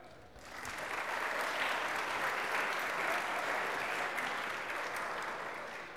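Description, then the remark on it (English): A crowd at a campus chapel service breaks into sustained applause for the speaker's wife, a dense wash of clapping that swells quickly, holds steady for several seconds, then begins to taper off slightly, with no voices standing out. “I take it that by that applause is because you agree that she's the most beautiful.”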